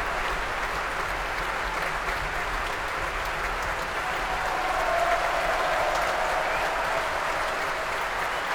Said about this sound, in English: Donald Runicles, the new chief conductor of the BBC Scottish Symphony Orchestra, coming back on for his second bow now, receiving a huge round of applause from the orchestra.